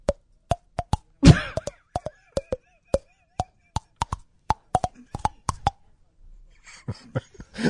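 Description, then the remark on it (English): Quick, hollow clicks of a thumbnail tapped against teeth, about twenty sharp pitched taps in an uneven rhythm tracing the melody of Hail to the Chief. A short burst of breathy noise interrupts early on. “The sound is coming from your thumbnail against your teeth.”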